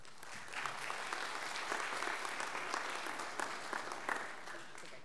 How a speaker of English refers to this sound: Again, let's have a round of applause for all our graduates.